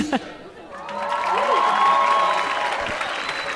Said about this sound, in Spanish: Bueno, pues ahí está el aplauso del público para estos muchachos. Muchachas, más que todo, ¿no? Solo mujeres.